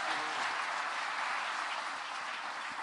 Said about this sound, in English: Come on, I think you can clap. Das war kein großer Applaus. Das könnt ihr besser.